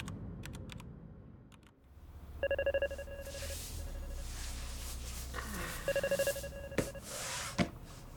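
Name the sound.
telephone ringing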